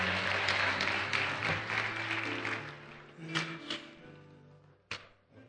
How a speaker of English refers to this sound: Let's give these young people another round of applause. They've done a wonderful job.